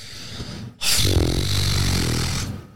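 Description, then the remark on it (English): A loud, wet raspberry blown with the lips imitates a fart: one buzzy, sputtering burst lasting nearly two seconds after a brief quiet moment, with no talking over it. “Did you just make a fart noise?”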